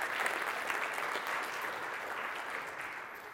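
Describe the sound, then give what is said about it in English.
A group of people applauding together, a dense, steady patter of many hands clapping at once that stays fairly loud throughout before easing off slightly toward the end. “All right, well, can we like clap or something for that?”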